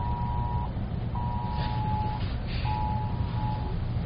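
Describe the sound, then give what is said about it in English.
An emergency broadcast test tone: a steady, mid-pitched electronic hum sounding in three long bursts with short gaps, over a constant loud rumble of low noise. “This is a test of the emergency broadcast system.”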